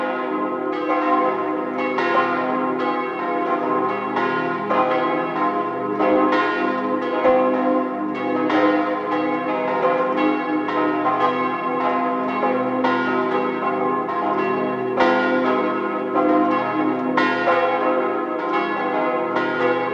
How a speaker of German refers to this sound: Es ist 12 Uhr. Sie hören die Glocken der Stadtpfarrkirche St. Hippolyt in Zell am See im Land Salzburg.